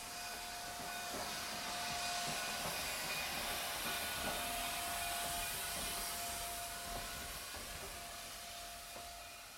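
A steam train rolls closer, a broad wash of hissing steam over a steady rumble, with faint rhythmic clacks and a sustained whistle-like tone throughout. No one speaks.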